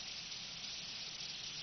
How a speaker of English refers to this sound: But if you were to listen real carefully, you'd hear the cars driving through the water outside.